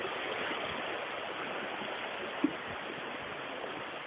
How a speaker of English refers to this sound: I'm stood on a bridge now with a river flowing beneath me. And as you can hear, that sound is beautiful. There's something very soothing about the sound of running water, of babbling brooks, lazy streams, tumbling waterfalls, all of that.